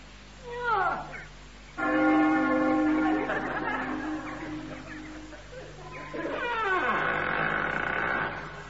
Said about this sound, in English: Ring the bell. Oh, all right. So that'll be this great rusty iron ring, I suppose.